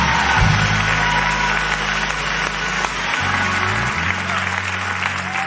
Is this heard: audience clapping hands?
yes